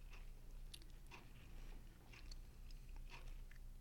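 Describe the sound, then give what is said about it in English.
Quiet chewing of food with crisp, irregular crunches and bites, a steady mastication rhythm of moist clicks over a low background hum, no talking. “Just chew down and just be aware of what's happening in the mouth and in the mind as we chew down.”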